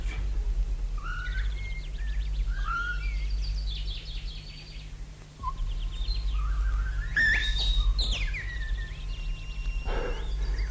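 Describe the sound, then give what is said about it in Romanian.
Several birds chirp and trill among branches in the morning, in quick, overlapping bursts, with a few brighter calls near the end, all over a steady low background hum and no voices. “Primele păsări ale dimineții au și început să-și ia zborul printre ramuri.”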